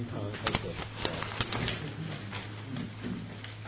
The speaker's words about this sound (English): All the paper rustling was for four words.